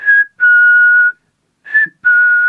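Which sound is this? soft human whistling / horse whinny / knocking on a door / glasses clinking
soft human whistling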